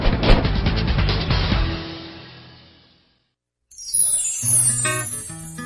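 Dense traffic-jam noise with car horns honking, fading out over a few seconds; after a short silence, a bright electronic jingle takes over.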